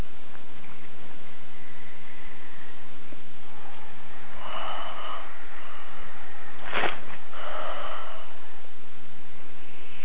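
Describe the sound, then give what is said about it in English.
Drawn-out breathy yawns from people during a breathing exercise, a couple of them a few seconds apart, with soft vocal tones over a steady hiss of background noise and a brief sharp rustle. “I hear some yawns.”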